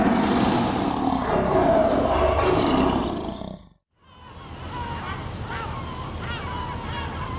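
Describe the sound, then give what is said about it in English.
A massive tiger lets out a loud, rumbling roar that lasts a few seconds, then cuts to a brief silence before a quieter, busy background with faint high chirping sounds returns. “Yes, it's a massive bloody tiger.”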